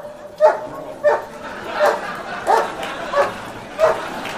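A dog gives six short, yappy barks in a steady rhythm, about one every half-second to second, moderately loud over a low background murmur.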